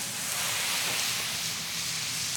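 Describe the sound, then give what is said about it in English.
A ladle of pasta water thrown into a hot pan with sausages and garlic gives a steady, loud hiss of sizzling, a bright crackling spray that holds constant without pause and with no voices over it. “Yeah, I went into the pasta pot, I took a ladle of water, and I threw it in the pan with the sausages”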